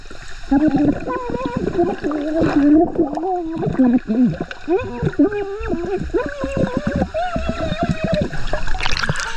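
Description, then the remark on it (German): A muffled voice sings underwater, recorded by an underwater microphone, its warbling, wavering melody blurred and bubbly, with gurgling water running throughout. It is fairly loud, ending with a brief hiss of splashing. “Okay, aber dann können wir jetzt mal hören, was auf dem Unterwassermikrofon drauf ist, ja?”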